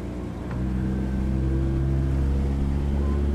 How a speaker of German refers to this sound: zwei Fischer aus Kuigan, starten ihr Motorboot und fahren auf den Balchasch hinaus, um ihre Netze zu kontrollieren.